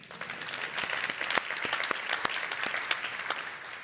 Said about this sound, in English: Wow. Can we do a golf clap for that?